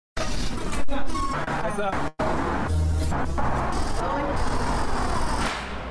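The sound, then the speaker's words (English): Busy New York city street traffic: a steady, dense roar of engines and passing vehicles, with brief hissing brakes, clatters, and a murmur of indistinct voices mixed into the din. “But recently, he's turned his attention to a different kind of sound, cities.”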